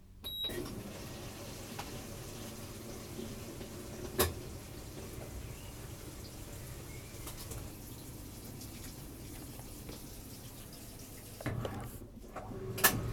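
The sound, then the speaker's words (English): A washing machine, with detergent poured in, set to heavy wash and its lid closed, fills with water in a steady, rushing flow, with a few sharp clicks and knocks near the start and toward the end. No one speaks. “I pour in the detergent, switch the settings to heavy wash, and close the lid. Stand beside it and listen to it fill.”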